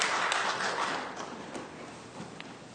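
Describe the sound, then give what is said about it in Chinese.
A crowd claps together after a prayer to thank every mother, a steady, dense patter of many hands that starts full and gradually thins and softens over a few seconds, with no one speaking. “好，我们再次掌声，我们为每位妈妈献上感谢，献上感恩，请坐。”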